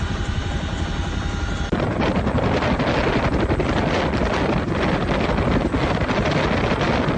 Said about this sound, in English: CH-47 in the background and the second one flying.